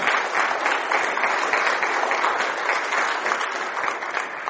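Steady applause from many hands, a dense, continuous patter of clapping that holds at an even loudness for several seconds without pausing, with no voices standing out above it.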